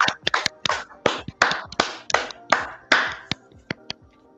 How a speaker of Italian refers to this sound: Ringrazio anche il nostro pubblico. C'è un bel applauso al nostro pubblico.